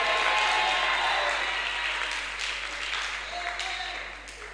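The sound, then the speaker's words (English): A crowd applauds at the speaker's urging, in a dense, steady wash of clapping that stays strong for a couple of seconds, then gradually thins and fades toward the end. “Clap so that the greater of that beauty shall land upon your life.”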